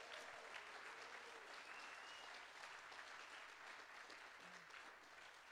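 An audience applauds steadily, a dense wash of many hands clapping at once that holds its level for several seconds without letting up, with no talking over it.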